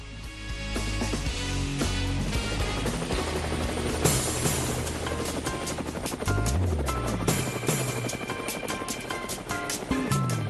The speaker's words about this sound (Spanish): Bueno, ahí tenemos el helicóptero y ahí está el helicóptero abierto para todos. Acuérdense que es virtual, cabemos todos.